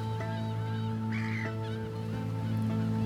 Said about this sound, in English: I hear the waves and seagull's song.